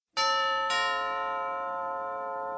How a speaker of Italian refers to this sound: Alle 9:09 minuti, suonò il campanello.